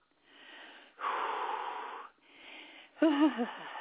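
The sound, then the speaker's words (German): Heavy, noisy breaths: a hissing exhale, a louder rasping one, another exhale, then a wheezy, wavering snort. No talking. “Ja, jetzt schnauft sie, eure Botschafterin, denn sie weiß natürlich, was kommt.”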